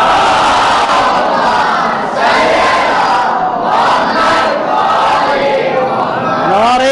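A large audience loudly chants salawat in unison during Ramadan, many voices blending into a dense, rhythmic collective recitation for several seconds.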